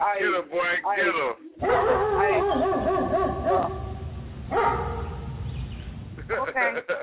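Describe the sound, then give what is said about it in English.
A person mimics a small dog's yappy barking, with quick high yips at the start and end and a longer whining, growly stretch of voice in between, loud. “I hear you barking, niggas.”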